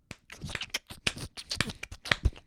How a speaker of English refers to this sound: The sound of a mayonnaise jar and clapping.